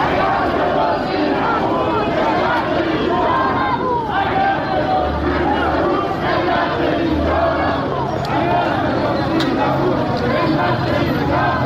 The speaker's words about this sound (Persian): همین سبب شد تا گروهی از سهامداران حقیقی در اعتراض به ریزش مداوم بورس و برباد رفتن سرمایه هایشان در مقابل ساختمان شرکت بورس و اوراق بهادار تجمع کرده و اعتراضشان را فریاد زنند.